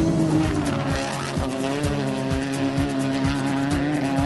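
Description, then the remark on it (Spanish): Race car engines roar loudly at full throttle in the opening of the radio show Motores a pleno on Nacional Río Grande, their steady harmonic whine shifting in pitch with sharp repeated gear-change pulses and a hint of tire squeal, with no voices. “Motores a pleno en Nacional Río Grande.”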